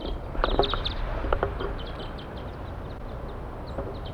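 A flock of wild birds calls from the top of a pine tree above a set bird net in short, high chirps, clustered in the first second and a half, then thinning to scattered calls over a steady low rumble.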